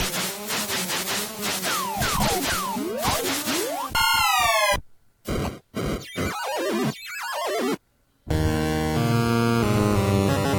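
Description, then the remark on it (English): The player death sound from the arcade video game Donkey Kong 3, where a bug hits the player: a clash of bleepy electronic tones and swooping pitch slides, then choppy beeps broken by short silences, ending on a sustained buzzy synthetic chord. “This is Brian dying at the end of his time with Donkey Kong 3”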